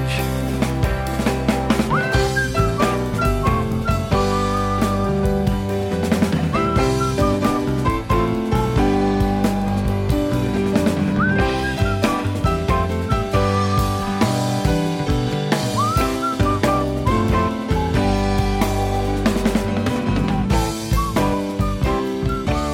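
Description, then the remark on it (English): A whistled melody rides over a full, steady band arrangement, with short rising whistle phrases recurring every few seconds. No one sings or speaks. “So that's another whistling song”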